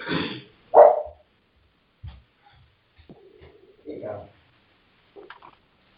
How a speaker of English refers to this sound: Only because it's a pretty, oh, there's my doggy barking.